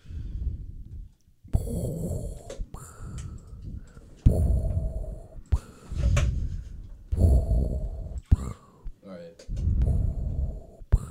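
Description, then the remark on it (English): A voice imitates Darth Vader's heavy, mechanical respirator breathing: a steady run of harsh, hissing inhales and rasping exhales, repeated in loud rhythmic cycles with no words spoken. “I can only do the breathing.”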